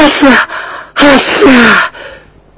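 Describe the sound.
A woman with hay fever has a loud sneezing fit: a sharp burst, a pause, then two more quick, breathy sneezes run together, fading into a soft exhale.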